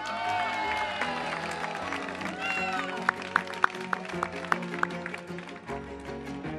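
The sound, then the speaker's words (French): A festival crowd at Festiventoux 2010 applauds and cheers in a steady, dense roar of clapping and shouting voices, with a few sharp, evenly spaced pops cutting through midway. “Voilà, merci donc à cette foule en délire”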